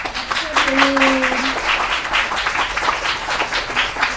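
An audience bursts into sustained applause for a speaker, a dense crackle of many hands clapping, with a brief tonal whistle or hum at the start as the clapping continues steadily.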